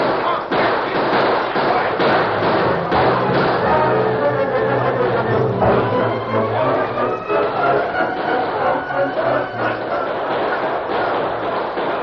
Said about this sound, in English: The rebels fought wildly to get out of the canyon, but the soldiers outnumbered them. Men and horses, wheeling and fighting, raised a huge cloud of dust.